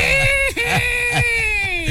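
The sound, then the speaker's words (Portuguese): A baby's whiny, demanding cry, loud, a sustained wavering wail with a brief catch partway through, and no other voices. “Esse choro tá pra mais um choro pidão.”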